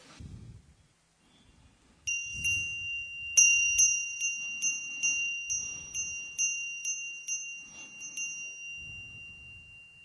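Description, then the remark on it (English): A bright bell, rung to start a meditation session, rings out with a long, sustained tone, then is struck repeatedly in a steady rhythm, about twice a second, before the ringing fades over a quiet, low background rumble. “We will start the session with the ringing of this bell, and at the end of the session, again, you will hear the bell again.”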